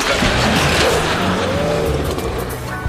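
A loud old pickup truck engine roars, rough and straining with a steady, gravelly rumble that holds for about three seconds, with no voices.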